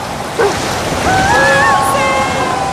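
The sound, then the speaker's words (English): A steady, loud rushing roar of ocean surf at the seashore in the eye of Hurricane Charles fills the whole clip, with a brief splash early on and a wavering, voice-like tonal sound riding over the wash midway. “Here at the seashore with a seeing eye dog named Charlie to see the eye of the storm, Charles.”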